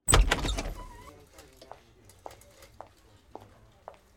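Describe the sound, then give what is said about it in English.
A door opens with a loud clunk and rattle right at the start, fading quickly, as a detective leaves, followed by a few faint, evenly spaced footsteps or clicks moving off. “Leave the door open when you leave.”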